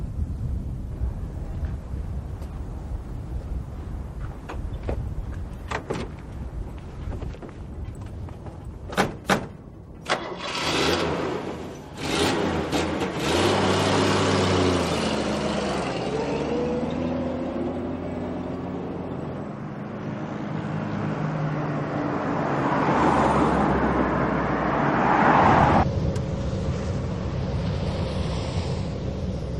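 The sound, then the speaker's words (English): A few sharp thuds, like a car door shutting, followed by an engine starting up and a car driving off, its steady rumble rising and shifting as it accelerates. No one speaks. “Get in the car.”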